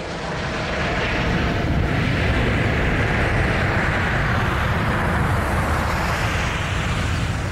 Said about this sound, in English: And just for comparison, I've got for you a recording of an airplane taking off. This is posted on YouTube by PDX Aviation, because they are not dissimilar noises.